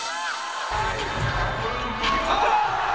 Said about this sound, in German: Ja, so geht's ab bei ganz vielen Action-Sport-Contests. Mega Stimmung, gehypte Zuschauer, krasse Tricks, die dann da gefeiert werden.